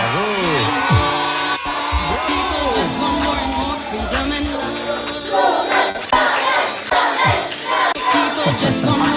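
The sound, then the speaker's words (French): A loud crowd of children cheers and shouts together for the person who gave the answer, voices rising and falling in overlapping whoops and cries, with some clapping mixed in, sustained throughout. “Là, il y a vraiment une foule pour cette personne.”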